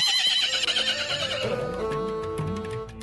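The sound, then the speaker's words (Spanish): A horse whinnies loudly, a shrill quavering cry that drops into lower snorting, wavering tones over about three seconds, with no voices present. “Entonces, seguiré rápido mi camino. ¡Dale, caballo, arre!”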